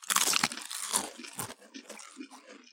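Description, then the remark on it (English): Loud crunching as someone bites into a crunchy snack, a sharp initial crack followed by a few quieter crunches and chewing sounds that fade out over a couple of seconds. “All right, are we crunching off?”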